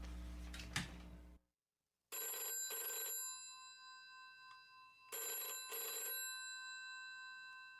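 A telephone rings twice with a bright, buzzing electronic double ring, each pair of trills separated by a short pause. The ring is loud, following a brief burst of noise and silence.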